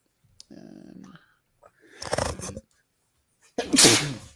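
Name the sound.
sneeze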